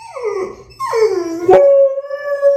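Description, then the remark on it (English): A dog howls in long, wavering cries, two swooping notes that slide downward before settling into a steady, drawn-out tone, with brief yelping breaks between them and no talking. Recorded by the dog's owner. “That's still the greatest dog tape I've ever heard.”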